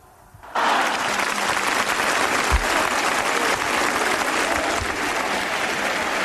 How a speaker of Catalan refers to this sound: Ara sí que ha acabat el discurs Carles Puigdemont, que acaba amb una ovació del públic que l'està seguint i amb crits de president.